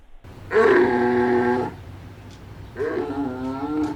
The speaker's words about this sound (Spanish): Bueno, esto ya parece otra cosa. Esto sí, a lo mejor a alguien le recuerda a algún pariente, pero de hecho es más pariente nuestro, porque es el oso panda, el panda gigante, está grabado en un zoológico